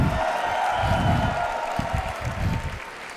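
An audience claps steadily for about three seconds, a dense, even wash of many hands at a moderate level, with faint crowd murmur rumbling underneath.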